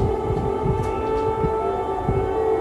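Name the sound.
air raid siren blaring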